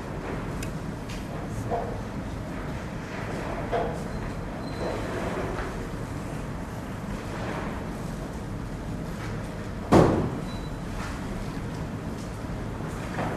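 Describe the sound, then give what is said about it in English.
A door shuts with a single sharp thud partway through, standing out briefly above a steady, low rumbling background like a moving train or vehicle interior. “Close the door.”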